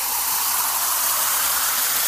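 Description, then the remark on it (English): A beer can is opened with a steady, loud, foamy fizzing hiss that holds even for about two seconds with no talking. “Let me get my beer, and then I'll just listen to you.”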